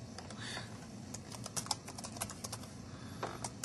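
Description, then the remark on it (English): Rapid, irregular clicking of keys being typed on a French-layout computer keyboard in an office, with a steady low hum of room noise underneath and no talking. “Oh, a funny keyboard.”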